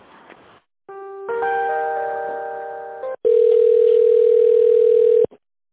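A telephone hold tone on the line of the official Kia dealer in Chuvashia, heard while the caller waits to be connected to a tender specialist: a steady electronic chord of several pitches sustained for about two seconds, then a louder single mid-pitched tone held evenly for another two seconds before cutting off.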